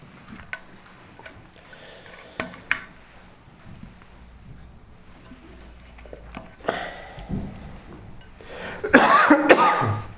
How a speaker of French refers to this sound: Je vais essayer de pas trop tousser ce matin. Pour ceux qui me connaissent, vous le savez, entre je tousse tout le temps, été comme hiver.